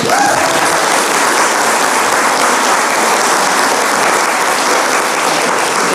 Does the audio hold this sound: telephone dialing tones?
no